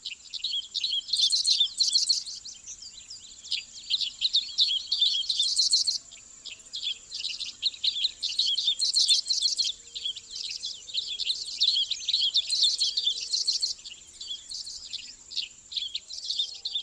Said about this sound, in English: I'm quite surprised that the dickcissels are singing so exuberantly this late in the breeding season. They must have had a second brood.